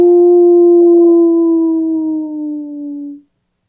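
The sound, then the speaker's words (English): On the radio show Native Roots Radio Presents I'm Awake, a person lets out a single long wolf-like howl, loud, holding a steady tone that slowly sinks in pitch for about three seconds before cutting off. “are you ready to howl with me? Absolutely. Let's howl.”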